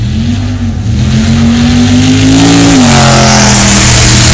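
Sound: car engine revving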